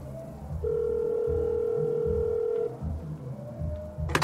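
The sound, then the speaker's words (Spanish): A single steady telephone ringback tone hums for about two seconds over low background noise, then stops as the call, placed from in front of the cantina La Perdición in Chiconautla, State of Mexico, goes unanswered; no one picks up. “Chingada madre, pinches teléfonos de mierda.”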